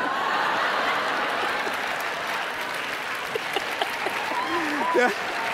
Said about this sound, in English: See, they're already applauding at taking the earrings off.